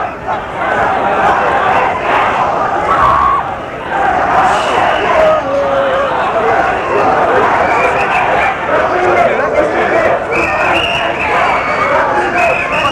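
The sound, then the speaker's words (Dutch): A busy shopping street crowd fills the air with steady, dense chatter from many people, a continuous loud hubbub with footsteps and bustle mixed in and no single voice standing out. “Nou, we lopen nu ineens echt in een winkelstraat.”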